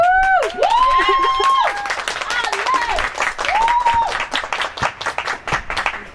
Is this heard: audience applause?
yes